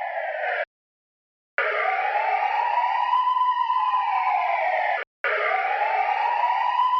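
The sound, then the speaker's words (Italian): A loud ambulance siren wails steadily, its pitch sweeping slowly up and down, broken by two abrupt cuts of silence before resuming at full strength, as the ambulance arrives to take an injured, bleeding man to hospital. “Stai tranquillo, è perché stai perdendo molto sangue, ma adesso arriva l'ambulanza e ti porta in ospedale dove ti cureranno a dovere.”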